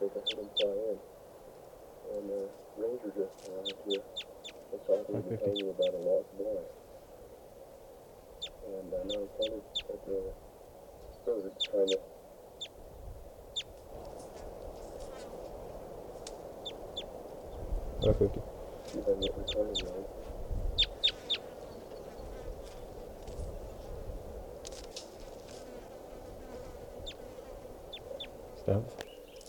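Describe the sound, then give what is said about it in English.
A flock of about 10 or 12 birds perched at the top of a tall Douglas fir calls steadily, with many short, sharp chirps overlapping in irregular bursts over a lower, busy chattering murmur that rises and falls throughout. “Must be about 10 or 12 birds.”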